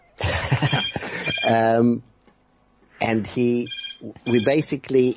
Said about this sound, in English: I can hear Chaim Erenthal is calling you on your other phone to tell you what you've left out.